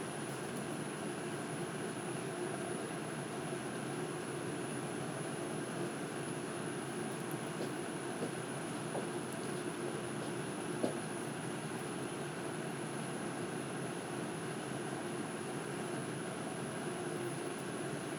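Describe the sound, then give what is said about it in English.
Water boils with a steady, rushing bubbling roar that holds evenly throughout, broken only by a few faint pops, with no voices. “And now there's still a few at the bottom, and massive bubbles coming up, and then after like a split second they're splitting in half, the ones at the top.”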